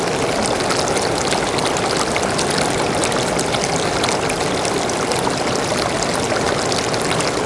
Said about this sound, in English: Golden peaks reach towards the sky, and down in the valleys, waterfalls gush to feed the scented eucalyptus trees.